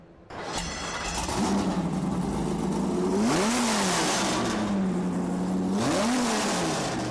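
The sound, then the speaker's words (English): A powerful Viper V10 engine fitted in a Challenger built purely for drag racing, not the street, rumbles loudly, its steady throaty idle broken by two sharp revs that rise and fall, with no one talking. “We dropped a V10 engine, taking the engine of the Viper and dropping the V10 engine into a Challenger for pure drag racing.”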